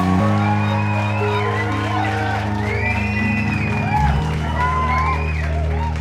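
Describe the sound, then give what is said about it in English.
A studio audience cheers and whoops loudly and steadily for about six seconds, many voices rising and falling over a sustained low drone, with clapping hard to pick out. “The studio sign changed to applause, and the program began recording again.”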